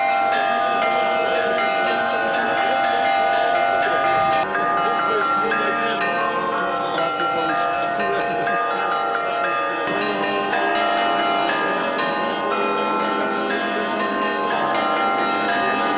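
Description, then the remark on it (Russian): Church bells of the Tikhvin cathedral ring in a continuous, full peal during a procession around the church with the Tikhvin Kerensk icon of the Mother of God after the liturgy, several bells overlapping into a rich, sustained clangor that stays loud and steady for the whole stretch. “Под колокольный звон вокруг храма обнесли и Тихвинскую Керенскую икону Божией Матери, главную святыню обители.”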